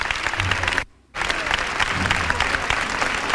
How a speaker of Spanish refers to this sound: El aplauso que no ha dejado ni terminar, cantado. Madre mía.